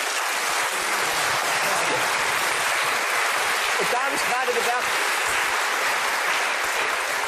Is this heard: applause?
yes